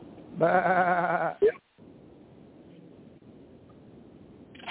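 A single loud, wavering sheep bleat lasting about a second, followed by a quiet background hiss with no other sounds.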